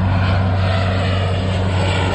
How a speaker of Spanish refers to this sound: Es el sonido de los hidroaviones esta mañana en el lago de Sanabria, cogiendo agua mientras que miles de bañistas aprovechan el día.